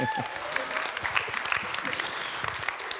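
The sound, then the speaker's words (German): A steady round of clapping from a group, dense and crackling with many overlapping hand claps, holding an even loudness for about three seconds with no voices standing out. “Kriege ich auch einen Applaus.”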